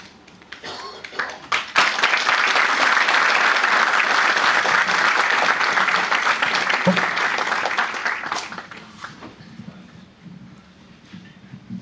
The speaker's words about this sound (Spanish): Así que no solo te recibimos con un aplauso, sino que nos gustaría que nos dejes tu mensaje y nos cuentes un poquito acerca del fascículo.